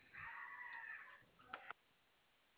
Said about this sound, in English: Where are you located? I heard a chicken in the background. Are you in the islands?